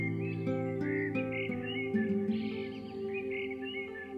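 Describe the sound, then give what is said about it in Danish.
Birds chirp and tweet repeatedly over a steady, humming low drone of insects in a grassy place with trees by the sea and forest, with scattered short calls overlapping throughout and no voices. “Lyt til fuglene og insekterne.”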